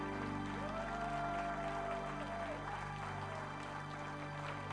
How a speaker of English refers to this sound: Let's stand and give him a hand clap as he comes to the pulpit.